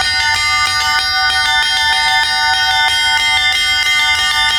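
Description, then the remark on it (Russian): Church bells ring loudly and continuously in a bell tower, overlapping strikes layering bright, sustained metallic tones into a dense, rhythmic peal with no voices. “На колокольне присутствуют все, и дети, и их родители, и бабушки.”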